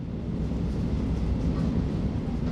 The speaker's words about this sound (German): verlässt die Bahn die Halbinsel der Rockaways und rumpelt über einen langen Damm durch die Weite der Jamaica Bay.